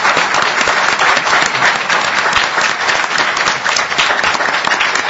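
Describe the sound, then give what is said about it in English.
A crowd applauds the judicial candidates for Marathon County Judge, Branch 1, steadily for about five seconds, a dense, even wash of many hands clapping at once with no voices breaking through. “A round of applause, please, for our judicial candidates.”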